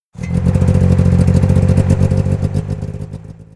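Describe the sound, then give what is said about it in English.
A snowmobile engine rumbles loudly as the snowmobile shakes under its rider with a rapid, rattling clatter, a steady low drone pulsing throughout before it eases off slightly at the end. No one speaks. “But suddenly, the snowmobile shook under her.”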